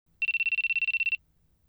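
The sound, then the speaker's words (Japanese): A mobile phone ringtone trills in a fast, steady burst of about fourteen rapid electronic pulses lasting roughly a second, loud, with quiet low background noise and no talking. “あ、電話だ。”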